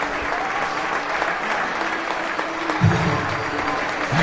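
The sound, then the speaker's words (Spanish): Sustained applause from the football crowd at El Alcoraz stadium in recognition of the players' season, a dense steady wash of clapping that holds even throughout, with a slight swell near the end and a faint voice underneath. “Yo creo que es un aplauso de reconocimiento, ¿no?, a los jugadores por la temporada que han hecho, que porque son ellos los que han salvado la temporada y la afición se reconoce así, ¿no?”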